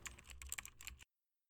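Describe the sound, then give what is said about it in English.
A quick, dense burst of computer keyboard typing, fairly crisp, lasting about a second before stopping abruptly into silence. No voices are heard. “Especially now that you've stopped typing.”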